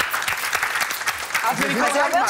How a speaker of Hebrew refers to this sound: כפיים, לא?